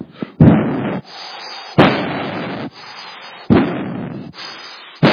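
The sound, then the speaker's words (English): Imitated heavy footsteps stomping up stairs, like the Incredible Hulk walking up the stairs: four loud, booming thuds at a slow, steady pace, each ringing out briefly before the next, with no voices. “You would hear something like the Incredible Hulk walking up the stairs.”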